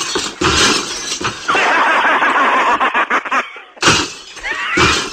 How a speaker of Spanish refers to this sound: Pues es algo que le digo, mire, como quedan cuatro cristales, esto me lo voy a romper yo, ya ves.